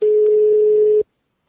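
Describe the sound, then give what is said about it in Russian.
A single steady telephone ringback tone as a call is placed to the police, a clear, loud mid-pitched hum held for about a second before cutting off abruptly into silence. “Вот, я нашел телефон ментов. Давай.”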